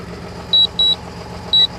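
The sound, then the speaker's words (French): A drone returning to its base gives two pairs of short, high-pitched electronic beeps, each pair quickly repeated, over a steady low motor whir that runs throughout. No one speaks. “Bon, là le bip bip, ça veut dire que... Ça veut dire que le drone est en train de retourner.”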